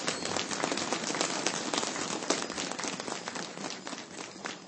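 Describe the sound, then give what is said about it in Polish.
A crowd claps steadily and warmly, a dense, continuous patter of many hands for several seconds without voices on top, welcoming Bishop Jan Wieczorek of Gliwice before Holy Mass. “Raz jeszcze przywitajmy księdza biskupa wśród nas bardzo gorącymi oklaskami.”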